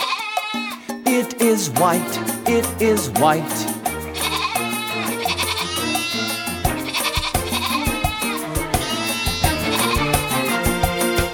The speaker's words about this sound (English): There's a sheep on the farm with her one little lamb.